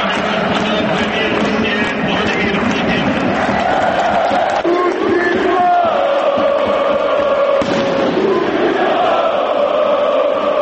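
Fans at the Marakana stadium in Belgrade, at the Zenit versus Crvena zvezda match in March 2011, loudly greet Russian president Vladimir Putin and sing Katyusha together, a loud, steady wall of massed voices with sustained chanted tones rising and falling over the cheering, no pauses throughout.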